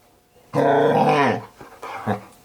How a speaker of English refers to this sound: They want to hear the dog. They want to hear the dog chewing my hand. Stop it!